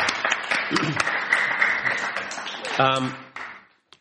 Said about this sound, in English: Especially for the first time chanters and many of you that chanted here, I want to give everybody a big round of applause.